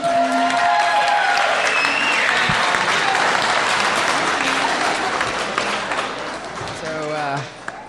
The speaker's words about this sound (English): We're going to be having a few more speeches here, so if I can get everybody's attention, let's give a big round of applause for our next toast giver.